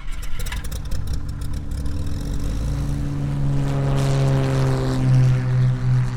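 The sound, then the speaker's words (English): A small propeller plane, used to fly schoolchildren a minute and a half home to Middle Bass Island, drones steadily, with a low throbbing hum and harmonic tones that rise in pitch as it revs up, loud and continuous with no voices. “as he was loading kids up to fly them a minute and a half home to Middle Bass Island”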